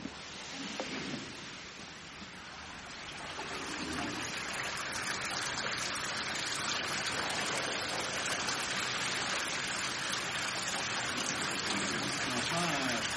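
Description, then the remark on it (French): Pressed wine juice drains through a sieve-like layer in a heavy, rain-like stream, a dense hissing splash that swells after a few seconds and then holds steady, with faint murmured voices near the start. “Vous avez une véritable pluie, la pluie du vin.”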